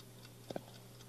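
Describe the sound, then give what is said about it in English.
A pair of quick, crisp clicks from an alarm clock's ticking mechanism, sharp and bright, set against a quiet, steady background hum with faint regular ticks around them. “Hear the tick.”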